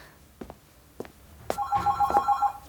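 A telephone registered only the day before starts ringing after a few faint clicks, its bell a rapid, loud metallic trill, sounding alone with no voices.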